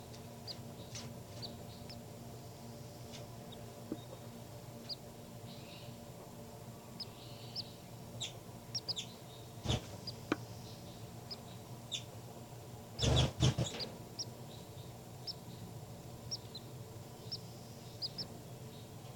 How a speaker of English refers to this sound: Baby birds are calling a lot louder now. Point it back at the baby birds.